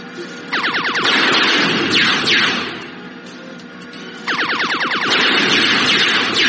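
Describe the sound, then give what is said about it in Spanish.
A video game radar alert sounds in two loud bursts of rapid, repeating electronic sweeps with a short lull between them, over a constant noisy game background. No one speaks. “Oigo el radar, encima del radar, y disparo con espacio.”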